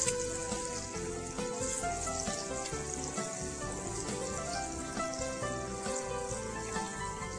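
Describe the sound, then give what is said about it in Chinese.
Steady, dense crackling and sizzling of food frying in hot oil in a pan during a cooking demonstration, with the heat turned down low, fairly loud, continuing evenly throughout with no one speaking. “好，这样子炸了之后，你会发现那个香味又特别特别的不一样哈。”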